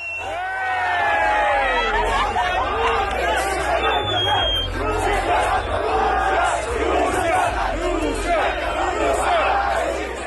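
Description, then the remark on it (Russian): A large crowd of fans in a fan zone in Mexico during the World Cup chants and shouts "Russia" while tossing a Russian fan on their hands, many voices overlapping in loud, continuous cheering that holds steady from start to finish over a low rumble. “В Мексике одного из них, как передавал чемпионат, качали на руках в фан-зоне под крики «Россия».”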